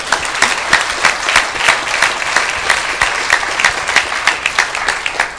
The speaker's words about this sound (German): Wie lange seid ihr denn verheiratet? 43 Jahre. 43 Jahre, das ist ein Applaus wert.